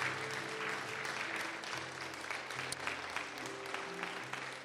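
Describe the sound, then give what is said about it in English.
An audience applauds steadily for several seconds, giving praise to the Lord, a dense wash of clapping hands with an organ or keyboard holding low chords underneath. “Let's give the Lord a praise then, okay?”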